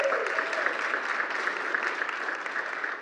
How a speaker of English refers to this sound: That's worth a little bit of a cheer in here anyway, I think.